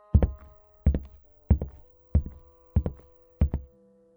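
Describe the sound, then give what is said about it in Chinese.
Six evenly spaced pairs of dull knocks on a bedroom door upstairs, each a quick double rap with a hollow thud, repeating steadily with no voices. “他走上楼到玉婷的门外敲了敲门，一直确定里面没有动静”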